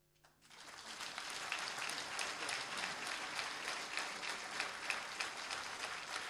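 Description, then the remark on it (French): Audience applause breaks out after a brief quiet moment and holds steady: a dense, crackling wash of many hands clapping, with no voices heard above it. The audience is applauding a sign-language presentation of a song. “Les gens applaudissent, je ne sais pas s'ils ont vraiment compris, tu vois.”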